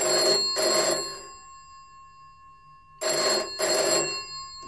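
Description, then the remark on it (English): A telephone rings in two double bursts, a classic trill-ring pattern with a pause of about two seconds between pairs, loud with no voices. “Dave, I think, is on the line.”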